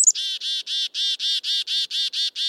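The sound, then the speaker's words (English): A black-capped chickadee gives its alarm call, warning of danger nearby: one sharp high note, then a rapid, steady run of about nine harsh, buzzy 'dee' notes. It is clear, with no voices. “When there's danger nearby, black-capped chickadees make a distinctive alarm call.”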